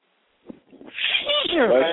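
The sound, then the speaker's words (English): A sharp intake of breath followed by a loud, hissing sneeze burst, trailing into a strained voiced exhale. “What the fuck are you sneezing there, bro?”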